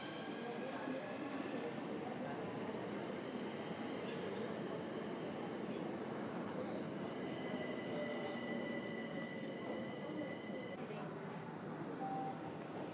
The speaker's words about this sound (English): Right, here comes the DLR train. Docklands Light Railway for the uninitiated.